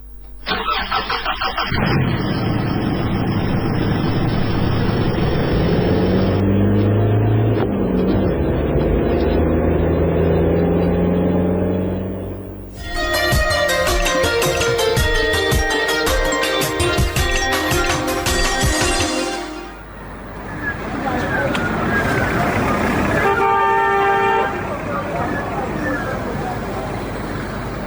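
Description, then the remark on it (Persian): A car, ordered to move off by a police commander, turns over and revs as it pulls away, with a loud sustained blaring tone midway, like a horn, before the steady engine drone carries on to the end. “برو بچه موتر حرکت بده.”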